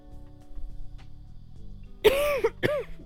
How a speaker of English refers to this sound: But yeah, I think at the moment the most annoying part of it is just the cough. It doesn't hurt, it's not gross, it just like, you know, I'd like to get through a sentence without having to, you know, without feeling it creep up my throat.